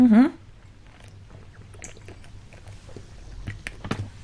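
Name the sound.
people drinking water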